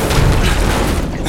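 A heavy door marked with a skull is forced open with a loud, dense scraping rumble that lasts just over a second, thick with low-end weight and no voices over it.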